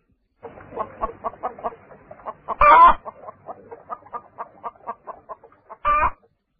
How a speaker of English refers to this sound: I hear a hen.